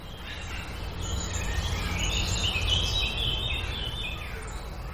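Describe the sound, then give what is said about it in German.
Many birds sing and chirp together outdoors, a dense overlapping chorus of high warbles and tweets, steady throughout over a low ambient rumble. “Bei uns jetzt hier ist gerade sehr, sehr viel Vogelgesang, Kinder, die man hört.”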